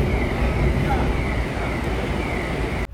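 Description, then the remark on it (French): Heavy trucks pass through the lower car deck (garage) of a ferry, a loud, continuous low engine roar with a steady whine above it, echoing. “Donc je suis à l'abri dans le bateau, en bas, dans le garage, il y a les camions qui passent, il y a beaucoup de bruit, donc je suis un peu sorti.”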